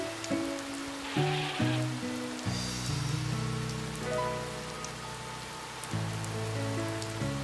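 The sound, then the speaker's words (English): Heavy rain pours down in a steady, dense hiss, with a gentle musical melody playing over it and no voices. “There's just no way to stop the rain.”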